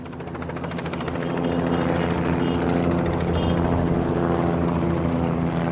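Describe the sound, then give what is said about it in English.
Helicopters and planes drone steadily overhead, circling the Rangers ballpark in Arlington as fans stream out of Cowboys Stadium. A helicopter's throbbing rotor chop blends with the hum of propeller planes, growing slightly louder after the first second and holding a constant roar with no voices. “Fans streaming out of Cowboys Stadium are greeted by helicopters and planes circling the Rangers ballpark in Arlington, just down the street.”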